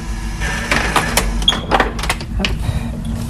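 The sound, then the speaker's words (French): A heavy security door opens with a few metallic clunks and scraping rattles over a low, steady rumble, with no one speaking, at a support center for women victims of violence on the seventh floor of a building on the Île de Nantes, France. “Derrière les lourdes portes sécurisées, les victimes sont accueillies dans des bureaux fermés par deux agents d'écoute et d'information,”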